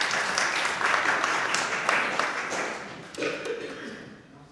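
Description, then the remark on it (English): A room full of people at a church Advent service applauds, a dense patter of clapping that holds steady for a few seconds before thinning out, with a brief voice rising over it near the end. “Give her a clap.”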